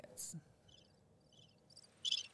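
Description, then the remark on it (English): Crickets chirp in a sparse, steady pattern of short high trills, with a louder burst near the end, set against an otherwise quiet background with no talking. “Ooh, where's our crickets? We need some crickets. Crickets.”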